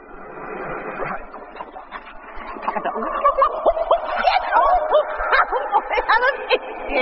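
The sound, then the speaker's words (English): Someone imitates a dog, letting out a rapid run of high, yappy barks and whimpering yips that grow louder and more frantic toward the end. “It was pretending to be a dog.”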